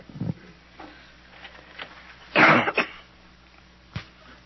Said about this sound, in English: When she's through coughing and so forth, we'll talk about health.